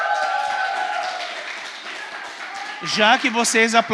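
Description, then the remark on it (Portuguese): An audience applauds in a dense, steady wash of clapping for nearly three seconds, then a voice starts speaking as the applause trails off underneath. “Já que vocês aplaudiram, vamos ler juntos?”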